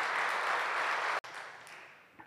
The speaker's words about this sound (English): Do you believe it? If you believe it, would you put your hands together and give God a hand clap of praise?